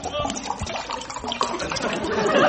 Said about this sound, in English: Oh, Lord, you're a fine gurgler, no mistake.